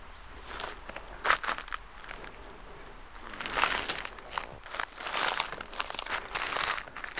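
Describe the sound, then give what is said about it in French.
Dry dead leaves crunch and crackle in irregular bursts, like steps shuffling through a thick carpet of fallen leaves in the mountains before the first snows, moderately loud, growing busier in the second half. “Avant les premières neiges, ce tapis de feuilles mortes”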